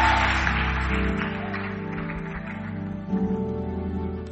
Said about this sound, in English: Give the Lord a mighty clap offering.